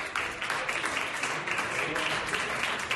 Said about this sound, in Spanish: Con ese aplauso y gestos de aprobación han recibido al presidente.